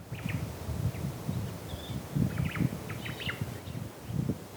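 hawaiian thrush song

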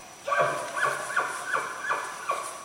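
bull elk bugling

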